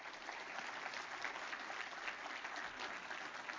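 An audience gives the Lord a clap offering in the morning, clapping steadily, a dense, even wash of many hands that stays loud and unbroken for the whole few seconds, with no voices standing out.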